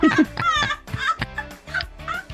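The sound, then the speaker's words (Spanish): A person voices a quick series of clucking, gobbling squawks, about six choppy bursts in a row, imitating a chicken with a strained, nasal tone. “Está aprobada la postura del pollo, güey.”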